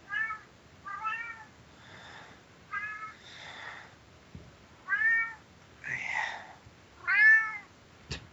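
A cat meows repeatedly, about seven times in an uneven rhythm, each call rising and falling in pitch, moderately loud with brief quiet gaps between them.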